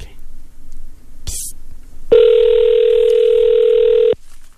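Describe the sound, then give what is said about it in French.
An outgoing phone call rings: one loud, steady electronic ring tone holds for about two seconds, preceded by a short crackle of static, with a faint low murmur underneath. “Ça sonne.”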